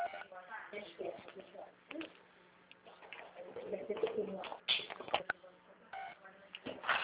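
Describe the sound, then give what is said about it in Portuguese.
Mobile phone keypad beeps, a cell phone's keys firing off and beeping during a call, sound in short, irregular bursts of electronic tones, mixed with murmured voices and muffled background noise over a thin, phone-like audio line. “Seu celular está disparando as teclas.”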